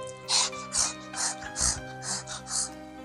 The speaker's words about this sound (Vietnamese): Tiếng con Pu nhỏ hơn hẳn mọi khi. Nó thè lưỡi thở hổn hển.